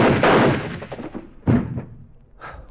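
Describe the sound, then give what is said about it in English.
Three gunshots ring out: a loud, booming first blast with a long rumbling tail, a second sharp crack a moment later, then a fainter third shot. “You really have got everything, haven't you? Even your own gun.”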